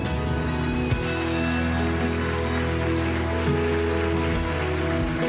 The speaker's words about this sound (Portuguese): Graças a Deus. Se você confia, aplauda o Senhor.